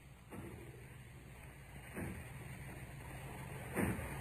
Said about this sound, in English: I hear it. It's from the factory. Aye. As if they were breaking down the doors. Aye. Yes, that's what they're doing.